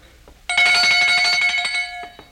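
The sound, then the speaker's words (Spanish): A small hand bell rings steadily for nearly two seconds, bright, with rapid repeated strikes blending into a continuous metallic jingle before stopping abruptly; it is rung to test whether a man can hear it. “¿Oye usted esta campanilla?”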